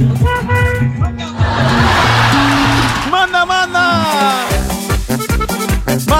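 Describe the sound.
Several car horns honk in overlapping blasts of varying pitch amid busy traffic noise, with voices shouting and talking over the later honks.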